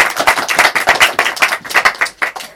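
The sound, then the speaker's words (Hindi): Loud, dense clapping from many hands, given for Jesus Christ, a fast continuous patter of sharp claps with no voices, holding steady for a few seconds before thinning out at the end. “यीशु मसीह के लिए जरा जोरदार तालियां हो।”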